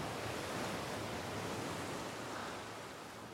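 A steady, broad wash of ocean surf breaking below steep cliffs and over jutting rocks, a continuous roar of waves with no distinct individual crashes, fairly loud and easing slightly toward the end.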